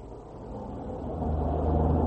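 A low, steady engine rumble from inside a moving car, droning continuously and swelling slightly louder as it goes on, with no voices over it.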